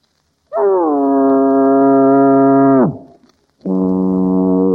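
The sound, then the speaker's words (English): A voice imitates a foghorn with two loud, low, droning blasts: a long steady one that sags in pitch as it ends, then after a short pause a second that is cut off. “I feel a foghorn coming on. Okay, folks, a foghorn.”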